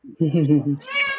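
A cat meows, a drawn-out, wavering cry that rises into a higher, thinner whine near the end. There is no talking alongside it.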